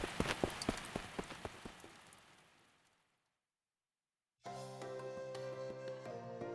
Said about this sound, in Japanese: うん、雨だ。走ろう 走ろう。